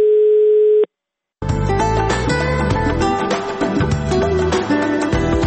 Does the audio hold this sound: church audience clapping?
no